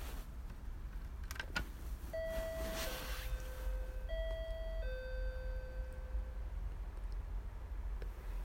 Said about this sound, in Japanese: じゃあ、監督さんのお家のインターホン押していきます。